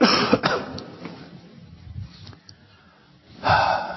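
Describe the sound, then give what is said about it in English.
A person coughs, a rough burst at the start, then quieter breathy rasps and throat sounds, before a second harsh cough near the end. “Okay, I have to cough, sorry.”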